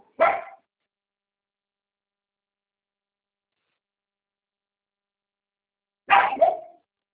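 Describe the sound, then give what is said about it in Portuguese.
A female dog gives two short, sharp barks, one at the start and another about six seconds later, with silence between them. The barks sound clear. “A cachorra para.”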